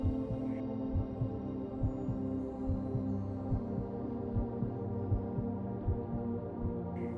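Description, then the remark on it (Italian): Low, muffled thumps pulse steadily like a slow heartbeat, repeating evenly throughout over a constant deep droning hum, with no voices present. “Senti le pulsazioni del pianeta come se fossero il battito del tuo cuore.”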